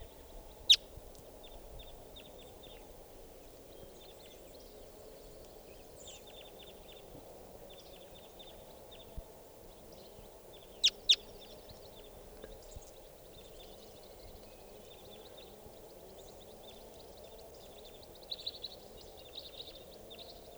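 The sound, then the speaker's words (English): Repeated short, high chip calls of crossbills, type 4, in scattered bursts over a steady low rumble, with a few sharp louder clicks standing out. “Here comes a type 4. And another type 4.”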